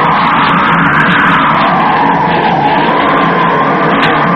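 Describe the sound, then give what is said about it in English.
A loud, steady roar of storm wind blows without pause on an island, a dense rushing noise with a faint whistling tone that wavers up and down through it. “Listen to that wind.”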